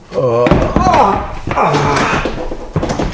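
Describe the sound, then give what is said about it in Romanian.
A chair is accidentally knocked over onto the floor with a loud, abrupt clatter and thud, while people speak over it in agitated voices. “Am răsturnat un scaun din greșeală.”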